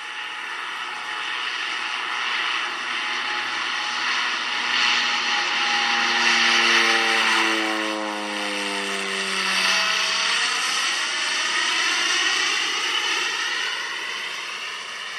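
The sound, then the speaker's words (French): A propeller-driven biplane engine drones steadily, its pitch dropping as the aircraft passes overhead and moves away, loud and continuous with no voices. “Les joueurs français devaient embarquer à bord de quatre biplans voisins.”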